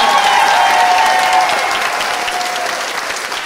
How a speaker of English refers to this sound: Let's have another round of applause for our special guests